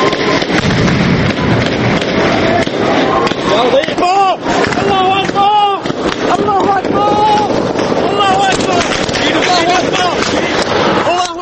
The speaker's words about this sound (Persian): فقط صداهاست که شنیده میشن. صدای گلوله و فریاد مردم.